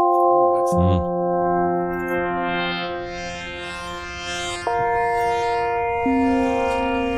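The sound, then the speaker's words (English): Trippy video game soundtrack music: layered, droning synth tones hold steady, then shift pitch in slow steps, loud and continuous, with a brief voice at the very start. “I love this song. It's so fucking trippy. This is the first Echo the Dolphin.”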